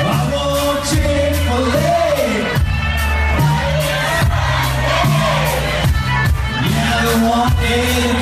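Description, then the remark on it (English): A large concert crowd of about 30,000 people sings a whole song back in unison, loud and dense, with music throbbing underneath and scattered yells rising from the mass of voices. “You want to hear the crowd singing it back to us?”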